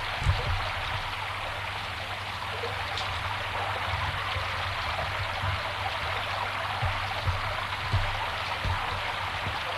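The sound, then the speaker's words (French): Steady rain falls outdoors on deserted streets in a dense, even hiss, with faint scattered drips and a low rumbling hum underneath, continuous for the whole stretch and no voices. “Dehors, il pleut.”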